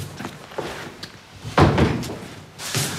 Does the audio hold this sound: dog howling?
no